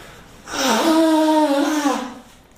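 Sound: nose blowing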